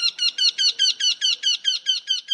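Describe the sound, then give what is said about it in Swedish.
A Eurasian wryneck calls a rapid, even series of about eleven nasal, high-pitched notes, loud, with no voices or other sounds around it. “Och så göktyta.”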